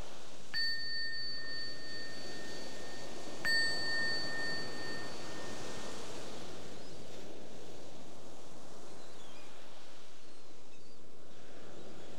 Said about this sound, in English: Notice if the mind responds differently to different bell sounds.